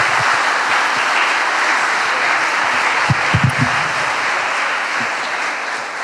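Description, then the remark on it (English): Sustained audience applause after a keynote, a dense wash of many hands clapping at a steady loudness for several seconds, with a few sharper individual claps standing out partway through. “Okay, thank you very much, gentlemen, for your keynote, and please round of applause.”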